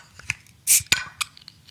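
beer bottle being opened

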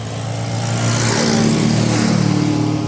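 motorcycle engine revving

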